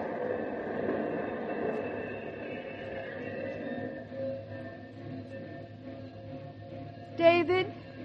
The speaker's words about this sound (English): And right here when the train pulled in, the eighth wonder of the world.